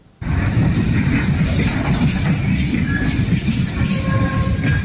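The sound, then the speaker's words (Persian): A freight train rumbles steadily past, with heavy low-frequency clatter, a continuous roar, and faint high-pitched squeals or whines rising briefly over the noise: Turkey's first freight train arriving in Xi'an, China, on Saturday, after a 12-day journey from Istanbul through Georgia, Azerbaijan, the Caspian Sea and Kazakhstan. “ورود اولین قطار باری ترکیه به شهر شیان چین در روز شنبه.”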